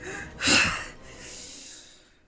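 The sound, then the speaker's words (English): Heavy, winded breathing after exertion: one loud, forceful exhale followed by a longer, softer rush of breath, with no talking. “You breathing mad heavy, dog.”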